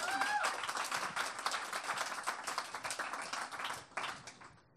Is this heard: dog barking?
no